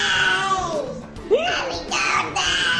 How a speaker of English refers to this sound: Fucking possessed toddler.